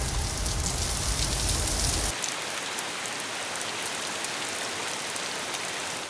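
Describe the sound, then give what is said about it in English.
Steady rain falls on its own, a dense, continuous hiss of drops that starts heavier with a low rumble for the first couple of seconds, then settles into an even patter. “Black clouds! It is raining. It is raining.”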